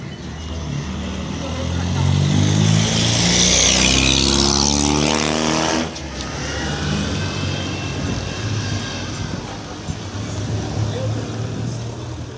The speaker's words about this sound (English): That was sound coming from a busy street with people talking and cars everywhere.